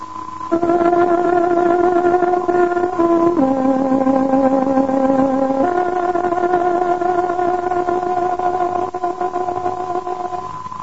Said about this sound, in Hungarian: Kedves hallgatóink, pontos időjelzést adunk. Tárogatónk hangja 16 órát jelez.